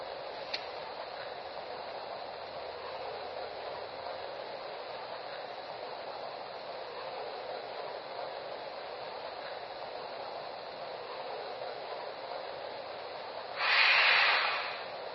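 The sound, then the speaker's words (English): A passenger train, train number 534 departing for Sacramento on track one, idles at a station platform with a steady, even rumble and hum, then a loud burst of hissing air rises near the end. No voices are heard. “Now departing for Sacramento on track one.”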